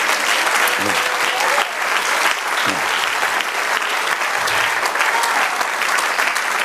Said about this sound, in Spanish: Hermanos, dad un aplauso al Señor.